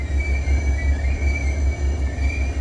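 A passenger train pulled by an SD-Mac locomotive of 4,300 horsepower rolls steadily along the rails past lakes, clearings and forests, with a deep, pulsing rumble and a thin metallic whine from the wheels, continuous, with no voices.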